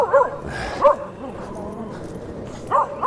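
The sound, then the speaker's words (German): A dog barks four times in short, sharp yaps, spaced unevenly across a few seconds, moderately loud over a low, steady background hum. “Halt die Fresse, Hund.”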